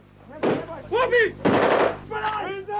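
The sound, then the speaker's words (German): Two sharp, loud bursts of gunfire crack out about a second apart, each trailing briefly, with raised, agitated voices shouting between and after the shots, as a Serbian civilian with raised hands is shot dead, recorded on video during Operation Storm in Croatia in 1995. “Er hebt die Hände in die Höhe, wird kaltblütig erschossen.”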